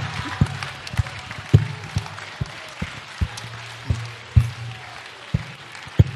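Scattered, uneven clapping from an audience: a dozen or so sharp claps at irregular intervals over a low, steady hum, with no voices.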